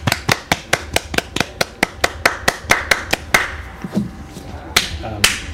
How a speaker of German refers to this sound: das ist ein kleiner Applaus